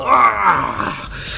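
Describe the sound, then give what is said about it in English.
A person voices a loud, drawn-out howling wail, imitating a wounded cat howling after being badly sliced, that rises and then sags in pitch over about a second before trailing off, with no other talk. “slice him badly and you hear him howl out.”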